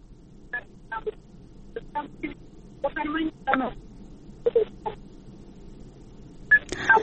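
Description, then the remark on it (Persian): A string of short telephone dialing tones beeps out in an irregular rhythm, some quick and clipped, others held longer, over a faint hiss of line noise, as a technician tries to reconnect a listener's dropped call to a radio call-in programme. “متاسفانه که تلفن شنونده ما قطع شد، ما باز هم همکار تکنیکیم کوشش میکنه که شنونده را با خود داشته باشیم.”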